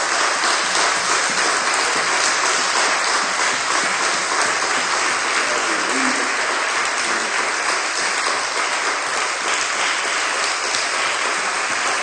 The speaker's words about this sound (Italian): Il servizio è impeccabile, veramente. Vogliamo fare un applauso.